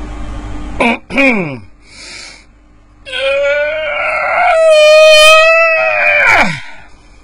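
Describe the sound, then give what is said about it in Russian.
A rooster crows at 6 a.m.: two short, clipped notes followed by a long, loud, harmonic-rich call that holds steady for a few seconds before dropping sharply in pitch at the end. “Какой-то петушиный крик с моей стороны.”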